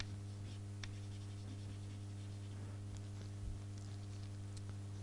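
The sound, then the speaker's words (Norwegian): Faint scratchy strokes of someone writing words in English on a board, a few soft marker or chalk scrapes spaced irregularly over a steady low electrical hum, no voices. “Skal jeg skrive, har jeg skrivet på, nei, skriver på engelsk.”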